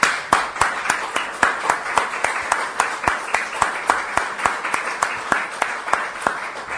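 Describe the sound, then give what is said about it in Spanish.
An audience at a poetry presentation applauds Paula Brecharioli steadily for several seconds, with sharp, evenly spaced claps standing out over a dense wash of clapping. No voices are heard. “Paula Brecharioli se emociona y hay que aplaudirla.”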